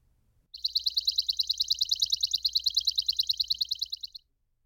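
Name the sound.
bird calling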